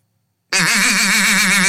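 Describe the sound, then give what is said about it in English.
After a brief silence, a voice launches into a loud, raspy, nasal buzz with a wavering pitch, held for about a second, imitating a duck call. “Pretend that you're calling a duck in.”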